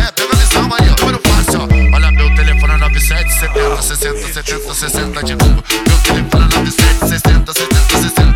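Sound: telephone ringtone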